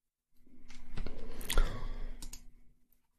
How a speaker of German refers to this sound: Wie immer so deine Maus hört. Klick, klick, klick. Ist die noch aus dem Zweiten Weltkrieg? Erster. Was? Ach so, aus dem Ersten.